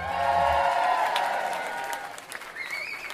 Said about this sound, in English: Anyway, let's have a big cheer